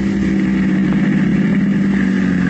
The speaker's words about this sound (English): Their taxi is just pulling up in front of the door. This is it, the Combo Cafe.